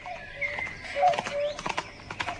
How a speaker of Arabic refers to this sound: فهمت، هذه الأحصنة لذلك الرجل، والحصان الأبيض ربما هو حصان بري لذا ليس له صاحب. إنه حصان قوي ولونه جميل.